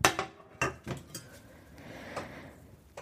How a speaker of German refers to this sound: So, und dann schnappe ich mir meine Pfanne.